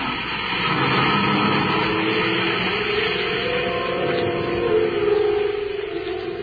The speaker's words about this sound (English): The reluctant Ropnar drives through the city to the spaceport. As the car glides through the gate, Buzz presses the control switch and the robot guard stands motionless.